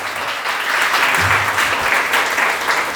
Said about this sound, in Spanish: ¿Cuánto pueden dar un aplauso al Señor esta tarde?